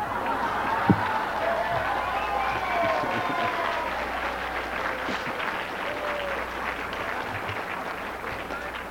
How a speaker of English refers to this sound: Polite applause would require slapping the hands together about twice each second. More feeling would be expressed by the rapidity rather than the volume or loudness of the individual's applause, to which I say, don't you believe it.